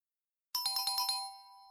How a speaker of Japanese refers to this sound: ピンポン、正解は丸でした。